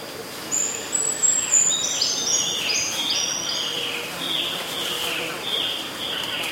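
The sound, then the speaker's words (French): Jungle ambience: a steady bed of hissing insect drone with clusters of high, bright bird chirps and trills weaving over it, busiest in the first few seconds, with no one talking. “Un bruit de jungle.”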